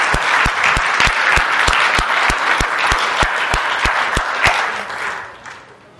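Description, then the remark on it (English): A church audience breaks into sustained applause, giving a hand to God after a woman's singing, a dense wash of many hands clapping with a few sharp, rhythmic claps standing out, steady and loud before tapering off toward the end. “Can we give a hand for God for the gift that He's given her?”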